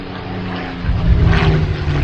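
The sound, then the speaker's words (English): A World War II Japanese fighter plane's propeller engine drones steadily, a low rumbling roar that swells louder partway through as the aircraft approaches, with no voices over it. “And now, a World War II Japanese fighter plane.”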